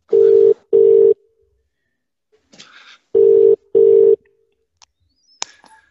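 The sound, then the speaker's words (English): A phone ringback tone plays two loud double rings, each a pair of short steady beeps, separated by a pause with faint clicks and rustling in between. “It's ringing.”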